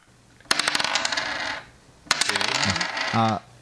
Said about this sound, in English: and I guess we could roll our dice. We can find out. You want to do that now? Okay. Let's find out.